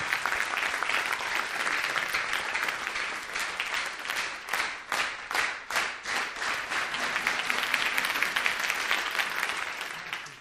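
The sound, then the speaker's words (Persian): Steady applause from a group fills the whole stretch, a dense wash of clapping that thins briefly into a few distinct, rhythmic claps midway before swelling back to full, even applause. “آره، مرسی، تشویقش کن.”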